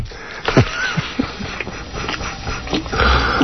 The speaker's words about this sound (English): I had the sniffles.